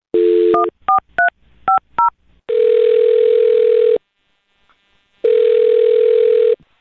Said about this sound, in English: All right, well, on that note, I'll dial the phone number and get him on the phone and see what he has to say.